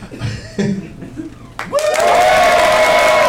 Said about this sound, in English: It should be applause first and then me saying we are back.